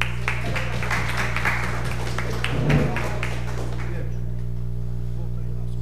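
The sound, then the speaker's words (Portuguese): A round of applause from a group at a city council session after an honorary citizen title is granted, a dense patter of many hands clapping for about four seconds before fading away, leaving only a steady low hum. “Uma salva de palmas.”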